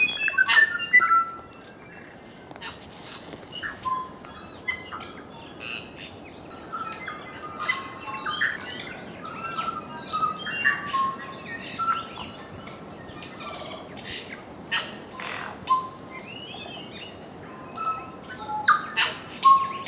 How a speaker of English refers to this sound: Although it's rare to see a kiwi or hear its call, what you will hear on Stewart and Olva Islands are tuis, kakas, bellbirds, parakeets, and the other species of birds that make the New Zealand soundscape so extraordinary.